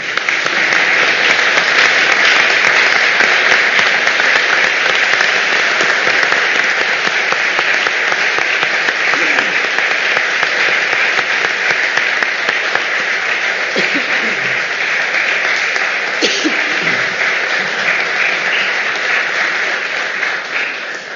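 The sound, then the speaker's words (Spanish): Sustained audience applause at a city council session, a dense, steady wash of many hands clapping at an even loudness for about twenty seconds, with faint voices occasionally surfacing beneath it. “Por eso agradezco mucho a todas ustedes y de aplauso.”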